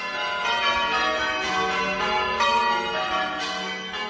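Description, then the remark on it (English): Eight church bells ring a Surprise Major change-ringing peal, strikes following one another in a steady, even rhythm, the tones overlapping and ringing on with a full, resonant sound. No voices are heard. “The name of the peal will be Women's Hour Celebration Surprise Major.”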